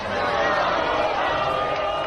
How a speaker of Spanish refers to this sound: Escucha, porque este es el sonido ambiente de la celebración que en estos momentos todavía se lleva a cabo por las calles de Villarreal.